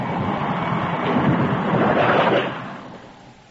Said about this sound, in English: Well, I guess there'll be no customers tonight in this downpour.